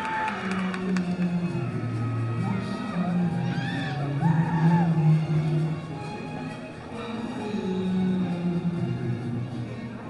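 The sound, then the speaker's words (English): A baseball stadium crowd cheers and yells steadily for about ten seconds as the on-field MC checks in with them, many voices overlapping in whoops and shouts that rise and fall, loud throughout without a break. “the on-field MC, checking in with the crowd.”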